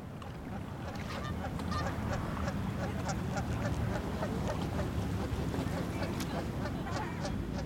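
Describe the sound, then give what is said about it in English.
A flock of nearby geese honks repeatedly and irregularly, the calls overlapping throughout, over a steady low rumble of water and outdoor background noise, in the afternoon a few hundred feet from the busy intersection of Gregg and Sunbridge. “Yesterday afternoon, several canoes were on the water, and if you listen, you can hear some nearby geese.”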